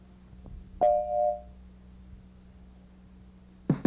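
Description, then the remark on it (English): A single steady electronic beep, an answering machine tone, rings out clearly for under a second over a low background hum, followed by quiet and a brief clunk at the end. “If, however, you leave your name and your number and any other pertinent data at the tone, my operator will return your call promptly.”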